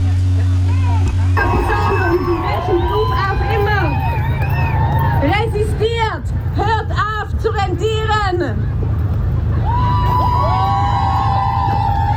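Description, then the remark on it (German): Raised voices shout slogans over a steady low rumble of traffic, with a burst of rhythmic, chant-like calls in the middle and a murmuring crowd throughout, at a street demonstration for a feminist strike: a speech from the Squad tractor as it drives over the bridge back to Bürgerplatz. “Ja, wir hören jetzt noch ein paar Eindrücke von der Demo, von der Straße.”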